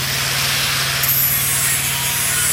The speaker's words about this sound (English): He's showing me a grinder that preps steel plates for welding.